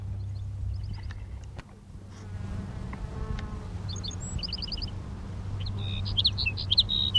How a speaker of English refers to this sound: Here's sage sparrow number three.